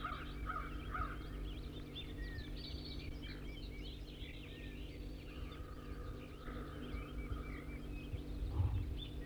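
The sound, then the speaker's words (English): A wild bird perched in a small white pine sapling about 25 meters east of a net sings in scattered bursts of chirps and whistled notes over a steady low hum, with no one talking; the song is moderately loud and varied in pitch. “Now 4-3 singing, and I'm pointed in the direction of the wild bird, who's just sitting in a small white pine sapling here about 25 meters from the net to the east.”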